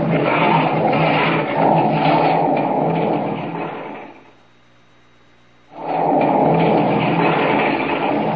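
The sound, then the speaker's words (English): A loud, continuous rumbling roar of a rockslide of boulders, rock and earth crashing down from the top of a mountain onto a trail, breaking off into a brief near-silent lull before the heavy crashing rush resumes just as strongly. “Down from the top of the mountain hurtles the mass of rock and earth.”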